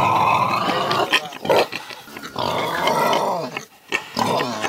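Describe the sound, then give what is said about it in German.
Loud pig grunting and snorting, rough and nearly continuous with a couple of brief breaks, no voices present. “Jetzt kommt ein neues über das Schwein, geschrieben vom Kulturwissenschaftler Thomas Machow.”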